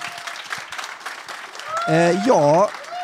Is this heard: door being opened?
no